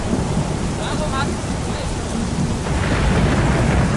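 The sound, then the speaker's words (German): A loud, steady storm: dense rain hiss over deep rolling thunder, with the rumble and downpour swelling and growing heavier in the second half. “Und als Jesus ins Boot kommt, hört plötzlich aller Regen auf, aller Sturm hört auf.”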